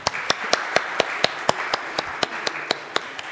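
An audience claps in a steady, even rhythm, about fourteen sharp claps at a brisk pace over a continuous wash of softer applause, with no talking.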